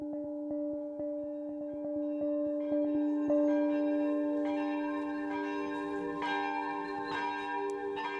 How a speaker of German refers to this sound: Die Glocken von St. Michaelis läuten zum Gottesdienst. Sie tun es nur einmal im Jahr.